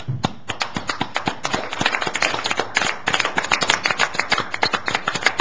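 People at a city meeting clapping steadily, standing to give a departing city employee a round of applause at his last meeting: dense overlapping hand claps forming a sustained, fairly loud applause that continues throughout without speech.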